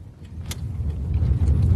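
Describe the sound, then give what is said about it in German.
Steady low engine rumble and road noise from inside a car driving along, growing slightly louder, with a brief sharp rattle or click partway through and faint jingling in the cabin; an interview is being held in the car on the way. “Und so machten wir aus der Not eine Tugend und führten das Interview, was wir eigentlich schon eine ganze Weile lang führen wollten, kurzerhand unterwegs im Auto.”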